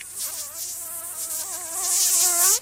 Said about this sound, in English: Got him. Mosquitoes.